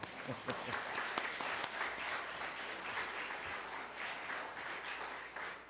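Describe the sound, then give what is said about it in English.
A crowd applauds steadily for several seconds, a dense wash of many hands clapping at a fairly even loudness, with a few sharper individual claps standing out early on. “And we did clap, but we can clap again.”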